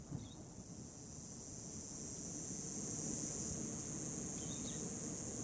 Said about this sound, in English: A monsoon storm brings us an entire soundscape in a flash. From the wind, to the rain, to the clap of lightning and the rumble of thunder. To the hum of cicadas when the rain ends.